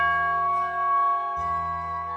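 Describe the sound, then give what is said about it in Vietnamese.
A deep Zen temple meditation bell rings out in a long, steady, humming resonance, with a second low stroke rolling in partway through, fairly loud, with no voices. It sounds across a Zen garden in a mountain forest, marking the end of work hours, in India. “Chuông âm vang từng tiếng một, trầm nhẹ rồi tan theo sương mây.”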